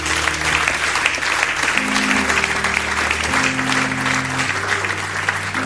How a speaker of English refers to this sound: Such a beautiful word. Amen. Just a round of applause for the word.